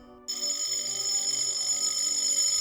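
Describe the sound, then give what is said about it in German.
At night, the doorbell at a house's front door starts ringing abruptly after a brief moment of quiet, a loud, shrill, continuous electric ring that keeps going without a break for over two seconds. No one speaks. “An der Tür klingelt's, das Tuscheln auf dem Flur wird heftiger, das Klingeln an der Haustür dramatischer.”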